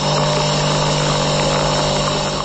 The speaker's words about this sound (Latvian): Tas skan mūsu iepriekšējais kafijas automāts.